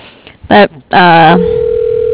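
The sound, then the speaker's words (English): A new phone system's tone: after two brief voice-like bursts over a narrow, telephone-quality line, a steady, unbroken mid-pitched tone sets in and holds at an even level until the end. “Yeah, it's just a new phone system.”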